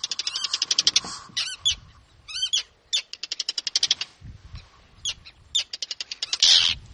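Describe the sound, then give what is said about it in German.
A gull in Iceland gives rapid bursts of sharp, loud clacking calls while repeatedly flying mock attacks at people's heads, repeating in quick rattling series with brief pauses between, over faint low water or wind noise. “Dabei ließ sie stets ein charakteristisches Klack-Klack ertönen.”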